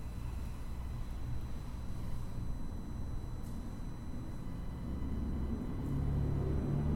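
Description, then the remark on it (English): Heavy trucks rumble steadily past, a deep continuous low-frequency drone that swells slightly louder toward the end, with no voices heard. “Sound of our chanting and the sounds of trucks.”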